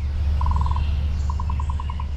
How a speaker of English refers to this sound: And then we had trills. So trills are things you'll hear in a lot of bird songs.